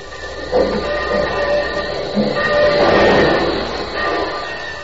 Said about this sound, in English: This episode is in two scenes, Union Station and then the Aces bungalow. But first to the station. The train's just pulling in.